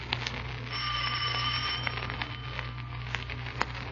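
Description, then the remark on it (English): The doorbell of a dealer's house rings in a sustained, bright buzz for about a second, then fades into scattered clicks and taps over a low steady hum, with no voices. “Ring the bell. Don't hesitate, Markheim.”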